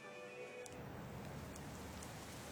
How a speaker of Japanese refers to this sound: あれ、雨か。